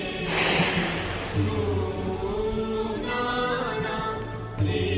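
A deep, drawn-out breath in and out, loud, taken as part of a guided breathing exercise, with steady soft music playing underneath throughout.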